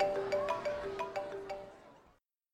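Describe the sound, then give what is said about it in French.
A mobile phone rings with an incoming call, a short, bright electronic melody of repeated chiming notes, steady, lasting about two seconds before cutting off into silence. No one speaks. “On m'appelle sur mon portable.”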